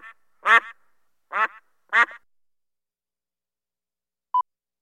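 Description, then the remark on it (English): A duck quacks loudly three or four times in a quick, uneven burst, followed by a pause and a short electronic beep near the end. “Two, ducks.”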